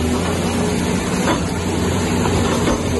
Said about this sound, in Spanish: Así abre paso al agua una excavadora, ampliando el cauce del río, que baja a una velocidad bastante violenta en algunos de sus tramos, sobre todo en el sur de la ciudad.